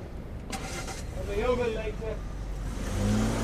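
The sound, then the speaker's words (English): A car engine roars and revs hard as Mayhew's car tears out of a car park at speed, with a rising whine and a low rumble that stays fairly loud throughout. “While Mayhew screamed out of the car park, Nick headed into the building.”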